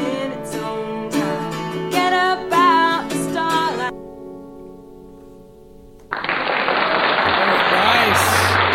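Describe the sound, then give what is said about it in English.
A sung melody ends on a lingering note, then a studio audience bursts into loud, sustained applause that fills the last few seconds. “Studio audience loved it.”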